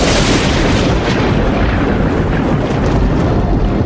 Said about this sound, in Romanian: Aoleu, bunică! Ce-i cu zgomotul ăsta? Vine furtună! Nu pare lucru de joacă!